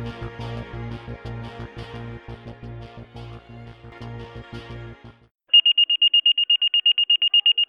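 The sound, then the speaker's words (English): A loud, high-pitched electronic fire station dispatch alert tone pulses in rapid, even beeps, sending stations 14 and 16 to a working residential structure, following several seconds of rumbling, clattering background noise that cuts off abruptly. “The tone sounds and the dispatcher announces, stations 14 and 16, working residential structure.”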